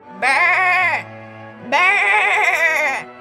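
A lamb bleats twice from inside an old gold mine shaft, each call a loud, wavering, nasal cry lasting about a second, separated by a short pause, with no other sounds around it.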